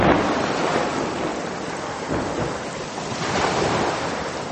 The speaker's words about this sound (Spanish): Un día de otoño, el viento de alta mar comenzó a soplar con tanta fuerza que se formaron enormes olas más altas que las casas.